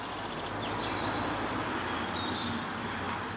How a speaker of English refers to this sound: These are the birds of Rattleston. Remember those birds, Dad? Do they sound the same?